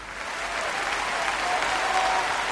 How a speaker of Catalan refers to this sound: Un aplaudiment, clar que sí.